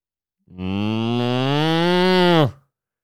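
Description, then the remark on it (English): A person imitates a cow with one long, loud moo lasting about two seconds, a steady low drawn-out tone that swells slightly and then cuts off abruptly, with no talking over it. “No, it's because I can do an impression of a cow.”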